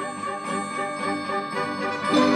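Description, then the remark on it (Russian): Sleigh bells jingle steadily and brightly for a couple of seconds, a dense shimmering ring that swells slightly louder toward the end, with no voices. “Так и быть, подарю я тебе на прощание свои бубенчики.”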